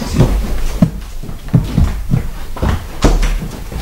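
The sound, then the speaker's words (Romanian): A door is pushed shut, followed by a series of solid clunks and clicks as the lock is worked, several short knocks spaced irregularly over a few seconds. “Încă acum sunt încredințat că nu ne aude și nu ne ascultă nimeni și că ușa e încuiată”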